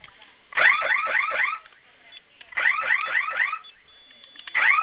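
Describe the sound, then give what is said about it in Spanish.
A loud electronic security alarm blares from a keypad after its two fire buttons are pressed together for five seconds, in repeated bursts of rapidly sweeping, warbling tones, with brief quieter gaps between them. It's piercing, with no one talking over it. “Ok, esos 2 botones de fuego los vamos a presionar al mismo tiempo por 5 segundos. Va a sonar su alarma y ingrese su clave, por favor, que acaba de registrar la nueva.”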